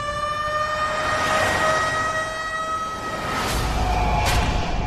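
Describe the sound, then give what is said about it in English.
An ambulance siren wails steadily and loudly as paramedics arrive at John Candy's apartment. Its sustained tone slides slowly in pitch over a rumble of traffic noise, with no voices present. “Paramedics arrive on the scene.”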